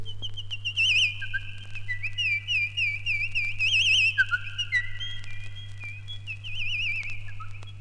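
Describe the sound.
An instrument imitates small birds chirping with high, warbling, trilling whistle-like tones that rise and fall continuously over a steady low hum. No one speaks.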